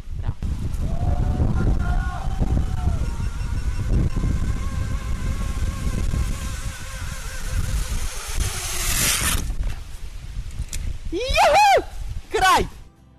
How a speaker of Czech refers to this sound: Juhu, kraj, čuli ste zvuk zadovoljstva. Kada se uspešno pređu prepreke, čuli ste na kraju i zvuk ziplajna i kako je spustiti se njime u punoj brzini.